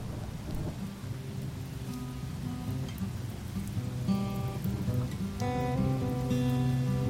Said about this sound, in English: In addition to the solar flares and solar eclipse that are emerging at the cusp of the Earth's atmosphere, a summer storm begins its torrential downpour.